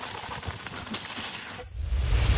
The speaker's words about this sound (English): Are you making that noise or is the snake making that noise? No, I'm not making any noise. I'm talking. Oh, God, I don't know. That noise. No. It's the tongue.